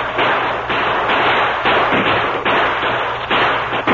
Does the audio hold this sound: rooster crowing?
no